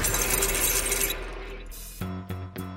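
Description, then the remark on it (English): Keith's keys jingle on a Boston radio show: a bright metallic jingle of a bunch of keys shaking, busy and fairly loud for about a second, then fading out before three short, punchy musical tones. “There's your key right there.”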